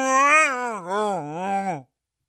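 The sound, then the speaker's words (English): A 60-pound dog makes a warbling, Wookiee-like groan that rolls up and down in pitch through three wavering swells over nearly two seconds, then cuts off into silence. “Just start giving you these like weird Wookiee noises.”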